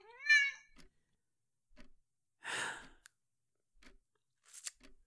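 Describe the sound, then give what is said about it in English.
A single clear cat meow rings out at the start, followed by quiet, scattered crunching clicks and a brief breathy rush of noise. No one speaks. “Yeah, and you cuddled into my lap and licked all my fingers and then shoved your ass in my face and... Yeah, all that usual cat stuff.”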